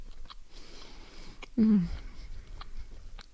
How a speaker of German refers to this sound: Ja, auch mal Stille genießen, ne? Während ich kaue. und schmatze.